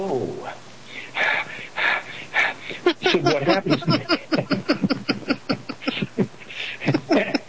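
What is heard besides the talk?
heavy breathing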